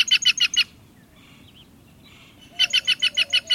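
A green jay gives two loud bursts of rapid, raucous calls, each a quick run of about five harsh notes, separated by a short pause with only faint background noise.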